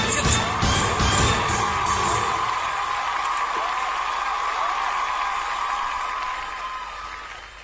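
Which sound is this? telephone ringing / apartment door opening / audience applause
audience applause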